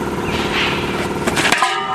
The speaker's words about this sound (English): Oh, my God. This guy pulled a wheel out of the trunk of his car, and he dropped it, and it cracked in half. His spare rim. First of all, if it cracked that easy, this guy should have absolutely... not use that thing.